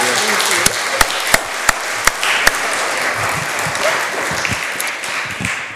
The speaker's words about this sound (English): Can I have a round of applause